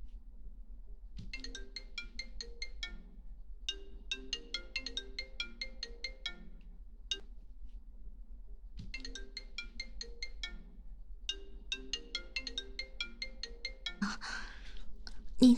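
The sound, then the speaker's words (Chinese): A phone ringtone for an incoming call plays a bright, tinkling melody twice in a row, each phrase lasting several seconds with a short pause between, ending in a brief rustle as if the phone is picked up. “你怎么又打电话过来了？”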